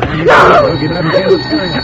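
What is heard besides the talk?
telephone ringing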